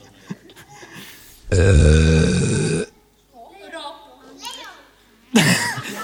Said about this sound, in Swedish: Vad var det för någonting? Rap. Det var väl en rap, ja.